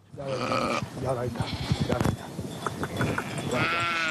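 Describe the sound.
A flock of more than 800 sheep tended by a shepherd in Harghita bleat over one another in a dense chorus of overlapping wavering cries, with a muddle of shuffling and clatter beneath and a voice briefly audible in the mix.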